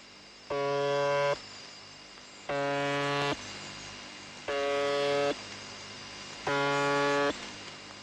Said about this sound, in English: Most monitors seem sure that the number stations are a part of international espionage, but some signals remain elusive. There are a few strange stations, I must admit, like the buzzer on 4625 kHz.